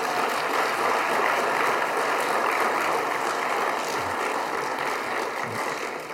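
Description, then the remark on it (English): The audience of Newcastle Bible Church breaks into sustained applause to welcome new members, many hands clapping in a dense, steady wash of sound that holds its level for several seconds with no voices over it. “And then after that, good round of applause would be.”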